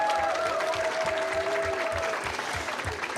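A live audience, many of them Franconians, applauds steadily, dense clapping with some cheering and whistles on top, sustained and fairly loud throughout with no talking.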